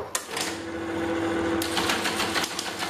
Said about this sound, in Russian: Во-первых, абонентские терминалы или телетайпы. Это были электромеханические печатающие устройства, такие как популярные модели Siemens T100 или телетайп Model 33.